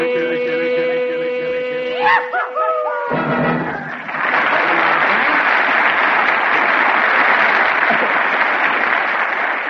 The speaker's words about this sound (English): Well, Frank, you heard that applause.